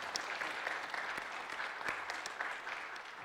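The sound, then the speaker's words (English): An audience applauds a community outreach RN for Enlo Hospice, a steady burst of many hands clapping in a dense, even patter at moderate loudness with scattered sharper claps, no voices breaking through. “So let's give her a warm round of applause.”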